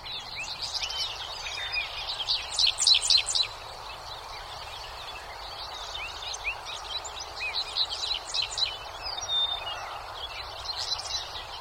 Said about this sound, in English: The following recording is dominated by a Dick Sissel, but there are many other birds singing, plus a busy highway out beyond the fields.